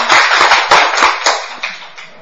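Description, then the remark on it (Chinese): A burst of audience applause: many hands clapping densely and fairly loudly with sharp individual claps standing out, then tapering off over about two seconds. No one speaks. “欢迎 大家给你掌声， 欢迎来，掌声。”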